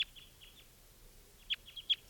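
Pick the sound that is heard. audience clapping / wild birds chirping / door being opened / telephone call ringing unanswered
wild birds chirping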